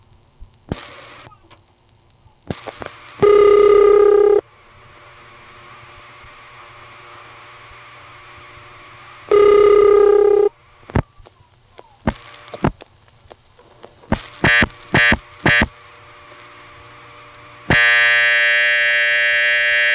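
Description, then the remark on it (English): Harsh, squawky buzzing from the Bridgewater telephone exchange power supply, heard calling a local supervision test, comes in loud bursts: two long ones, a quick run of short pulses, then a sustained squawk, with relay clicks and a faint hum between. “But the main power supply noise we'll be hearing here from Bridgewater is that squawky noise.”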